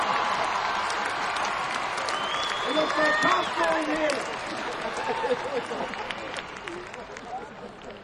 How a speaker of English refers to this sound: Let's give ourselves a nice round of applause.